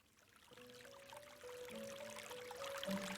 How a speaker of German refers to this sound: Ich vernahm das leise Plätschern von Wasser, zusammen mit einer beruhigenden Melodie